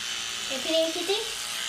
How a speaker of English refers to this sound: So, with the electric toothbrush, let's see how this goes.